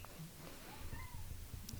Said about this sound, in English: We have a cat. Can you hear the cat